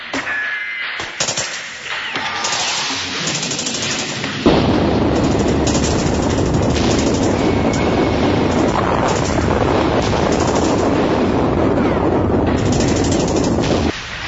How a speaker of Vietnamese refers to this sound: Tiếng súng vẫn ầm ĩ, những viên đạn lửa như muốn xé màn đêm.